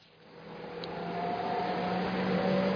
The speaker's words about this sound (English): I'm standing in the centre of Parliament Square in London, surrounded by the busy clamour of rush hour traffic. Less audible over the cars and buses, but clearly to be seen, are the busy people who work here.